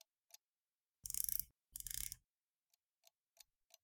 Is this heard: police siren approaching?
no